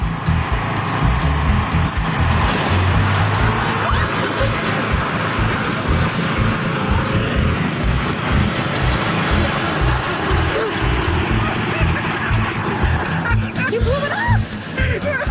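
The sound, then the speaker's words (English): Heavy tractor engines roar and rev continuously, a loud, rumbling drone that surges throughout, with faint voices and chuckling mixed underneath. “I think they're trying to find out who's the alpha tractor.”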